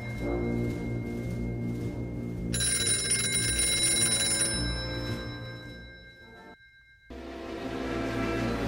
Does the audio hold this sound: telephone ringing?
yes